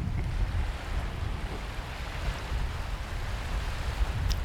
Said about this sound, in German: Also das Meeresrauschen ist wunderhübsch. Der Rest, naja, da hätte man vielleicht drauf verzichten können. Aber ach, so ein so Wellenplätschern ist ja immer sehr entspannt.